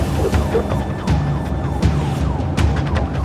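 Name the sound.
emergency vehicle sirens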